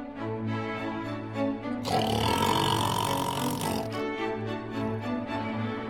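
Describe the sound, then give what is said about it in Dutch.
A wolf growls and snarls ferociously as it devours its prey, a loud, rough burst lasting about two seconds, set against a steady musical background before and after. “hij kwam met een grote sprong het bed uit en verslond het arme Roodkapje”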